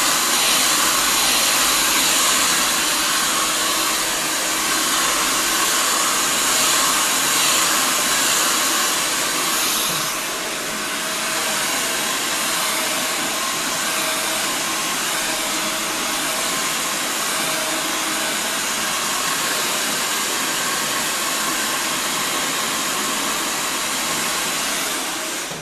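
A hair dryer blows steadily and loudly up close for the whole stretch, a dense whooshing roar with a slight shift in tone partway through and no voices.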